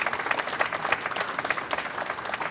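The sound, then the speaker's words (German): An audience applauds steadily, a dense crackle of many hands clapping at a moderate level with no voices standing out, rising and falling slightly throughout. The applause is for author Ines Geipel at a book discussion. “Ja, Ihr Applaus.”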